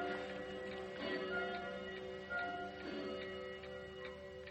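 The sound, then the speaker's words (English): A clock ticks steadily at an even, regular pace, its quiet clicks sitting over a sustained, ringing tonal drone throughout. No voices are heard. “Was that the clock downstairs?”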